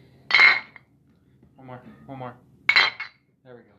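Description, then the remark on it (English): Two bright, ringing clinks of glasses touching in a toast, a couple of seconds apart, with brief voices murmuring between them and a short voice trailing after the second clink. “Okay, if we're cheering for people nerd in the community who died, we have to give the highest cheers to our king.”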